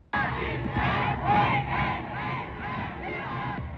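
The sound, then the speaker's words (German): A large crowd cheers and shouts continuously at torchlight parades through German cities on 30 January 1933, when Adolf Hitler is appointed Reich Chancellor; a dense, loud roar of many voices swelling in waves, with rising yells standing out now and then. “Begeisterungsströme, Fackelzüge durch deutsche Städte, großer Jubel.”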